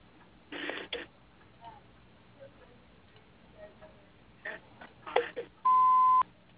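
A single loud, steady electronic beep, like a voicemail recording tone, sounds for about half a second near the end, preceded by faint clicks and muffled line noise over a phone connection.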